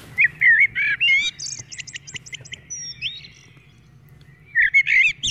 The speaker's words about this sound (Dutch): Ja. Die herken ik zelfs. Ja. Ik ben geen vogelkenner, ook geen vogelspotter. Dat is de merel.